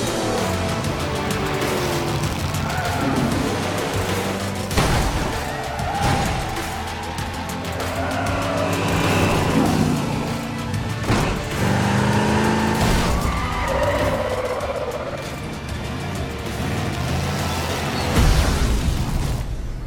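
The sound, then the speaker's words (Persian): Cars skid and crash in a dense, chaotic roar, with loud booming impacts and screeching tires recurring throughout, intense, like a chaotic pileup of vehicles. “باشه ماشینا رو کجا میندازی سیسکو؟”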